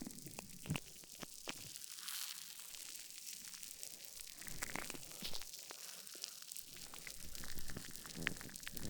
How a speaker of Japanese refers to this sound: 泡をしっかりこすりつけて、滑らかな泡で耳を包んで、 ゴシゴシ、 力加減に気をつけながら耳全体をゴシゴシして、 ゴシ、